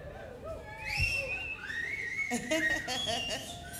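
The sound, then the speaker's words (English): Many people in an audience whistle at once, overlapping sliding pitches forming a loud, sustained chorus with crowd noise underneath. “Nice whistles. Everybody whistle.”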